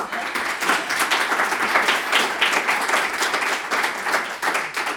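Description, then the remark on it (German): An audience applauds steadily for several seconds, a dense, even patter of many hands clapping at a fairly loud level, with no voices rising above it, applauding a woman physician who is being thanked for her tireless engagement. “Ich finde, sie hat sich auch einen Applaus verdient.”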